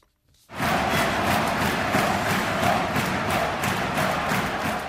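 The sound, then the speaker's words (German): A large arena crowd of ice hockey fans in Pardubice bursts into a loud, rhythmic chant of "Dynamo, Dynamo", many voices roaring together in steady repeated pulses after a brief silent start. “Ja, Sie haben richtig gehört, in Pardubice skandieren die Fans oft und gern den Sprechchor Dynamo, Dynamo, in Erinnerung an eine starke Vereinsepoche in den 1950er Jahren, in der ihr Verein noch Dynamo Pardubice hieß.”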